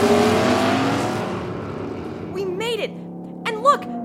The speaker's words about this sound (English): At the stoplight. And here come the two sports cars.